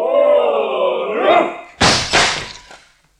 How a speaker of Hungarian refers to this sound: Be van zárva az ajtó! Törjétek be! Ha, gyertek, segítsetek!